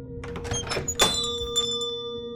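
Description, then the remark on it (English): A corner store (bodega) door opens with a soft thunk and a bright bell rings once, its clear metallic tone lingering and slowly fading over low background hum. No one speaks. “Bell rings as you step back inside.”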